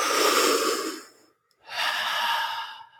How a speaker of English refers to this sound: it's a big inhale through the mouth because we want to oxygenate the body as much as possible